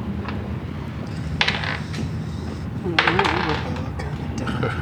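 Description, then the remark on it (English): Dice clatter across a hard surface in two short bursts of rapid clicks, the second one longer, as players roll initiative, with faint voices murmuring in the background. “I would like you all to roll initiative, please.”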